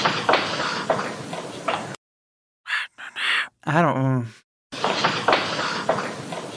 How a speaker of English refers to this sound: I just heard, like, footsteps. Yeah, there's definitely some footsteps. Wait, let's hear it again. So there's, like, a whisper among the footsteps.